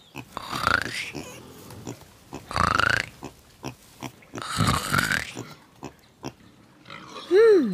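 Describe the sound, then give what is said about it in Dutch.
Six small piglets sleeping in straw around their mother sow in a stable grunt and snuffle softly in a few irregular bursts, with pauses between them and a brief squeaky squeal at the end; no one speaks. “Daar om haar heen liggen 6 kleine biggetjes in het stro. Ze zijn allemaal nog rustig aan het slapen. Hoor ze maar zachtjes knorren.”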